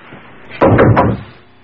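Three quick, heavy knocks on a locked wooden door in a steady rhythm, loud, with no one speaking.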